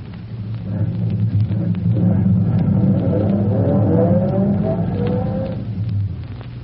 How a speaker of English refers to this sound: He waves a signal with his electric torch and waits for his car to emerge from the shadows.